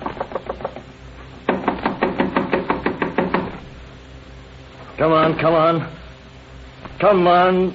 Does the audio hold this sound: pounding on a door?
yes